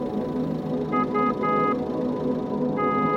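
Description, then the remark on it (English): A car horn honks in a quick run of three short blasts, then sounds again a moment later, over a steady low rumble of traffic or an idling engine. “Why are they pressing the car horn?”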